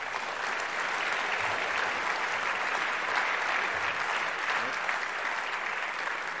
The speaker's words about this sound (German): Danke, das ist doch mal ein Applaus wert.